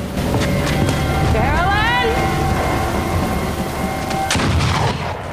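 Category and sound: impact, gunshots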